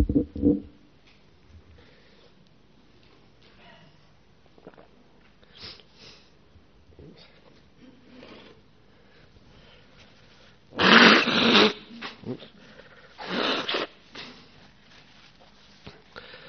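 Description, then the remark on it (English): Someone blows their nose twice, in place of a conch sound, at a Buddhist talk: a long, loud, noisy honk, then a shorter blast a moment later, with only faint room sounds and small shuffles before and between. “We haven't got a conch here, so I'm blowing my nose instead.”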